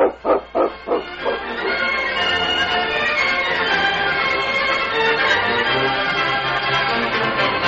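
A dog, King, gives about four quick, sharp barks in a row, then a steady, dense wash of sound takes over and continues to the end.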